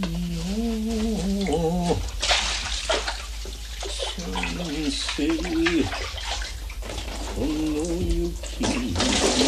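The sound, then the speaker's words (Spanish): Clean water pours steadily into a basin as a woman fills it, a broad, splashing rush, while a voice speaks intermittently over it in short phrases. “Ella se anuda el kimono a la cintura, coge un barreño y lo llena con agua limpia.”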